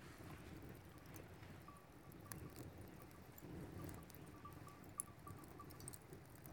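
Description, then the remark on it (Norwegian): A fire crackles faintly, with a few sparse, soft pops and snaps scattered over a steady low rumble of wind-like background noise. No one speaks. “Men det flammer, det ikke det? Ja, det lager jo litt dirring da.”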